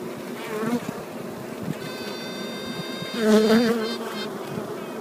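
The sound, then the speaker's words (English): Queen honeybees still in their cells quacking in response to a first-hatched queen, over a steady insect buzz: short, nasal, duck-honk-like pulses with stacked harmonics, swelling louder about two-thirds of the way through. No one speaks. “they respond with a noise called quacking. It sounds like a duck honk.”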